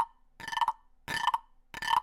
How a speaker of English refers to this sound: And if you're not in the know what one of these are, they're called percussion frogs. And you take this little stick and you rub it up his little, like, ridge back here. And listen.